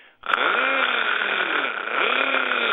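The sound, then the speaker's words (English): A voice imitates a car's engine grinding, said to sound like a fan rubbing on top of the engine: a continuous raspy, buzzing drone that starts after a short click and holds steady for a few seconds with slight wavering pitch. “I'm still hearing that grinding sound. And it sounds something like a fan rubbing on top of the engine.”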